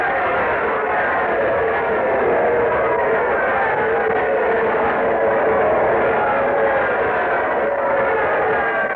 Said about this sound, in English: Oh, the crowd's giving him quite an ovation. Listen.